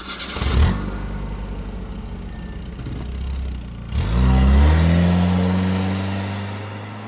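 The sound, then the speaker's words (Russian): A car engine cranks and catches with a sharp burst, idles with a low rumble, then revs up loudly, its pitch climbing and falling away, as picked up by a camera in the subject's car on 13 March at 23:22. No voices. “Сигнал камеры, переход на камеру автомобиль субъекта.”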